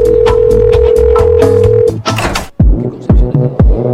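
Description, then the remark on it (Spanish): A loud, steady telephone dial tone hums for about two seconds beneath rhythmic clicks and taps, then cuts out, giving way to a burst of noise and several deep, thumping drops. “Entrevista. Teléfono.”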